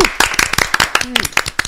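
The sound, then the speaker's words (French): Loud, dense applause from a crowd: rapid, overlapping claps crackling steadily throughout, with a brief vocal sound rising over it partway through. “Eh ben, on applaudit très fort s'il vous plaît.”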